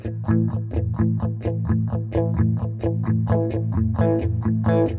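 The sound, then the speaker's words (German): An instrument played through a distortion effect whose amount is being turned up from a low setting, with a gritty, saturated tone as chords are struck in a steady, quick rhythm throughout. It is loud, with no talking. “dann haben wir auf einmal eine Verzerrung”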